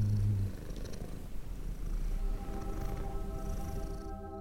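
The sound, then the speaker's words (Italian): A cat purrs steadily, a low continuous rumbling hum with a faint rhythmic pulse, alone without any talking. “In angosciosa divinità il mio gatto gira intorno.”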